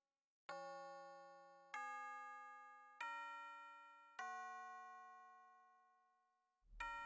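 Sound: chime ringing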